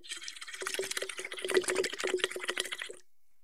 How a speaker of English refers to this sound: Put a straw into a small bottle or a tall glass, half filled with water, and you'll see how helpful it can be right away. Let's blow some bubbles and get started, like this.